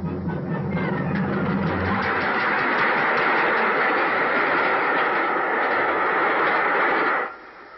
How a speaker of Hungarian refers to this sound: A vonat! Azt hiszem, jön a vonat!